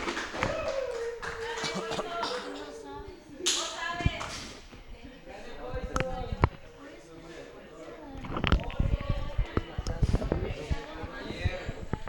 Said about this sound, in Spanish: Démosle un fuerte aplauso, por favor.